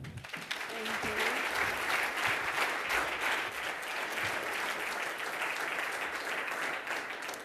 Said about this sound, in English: Please give a very warm applause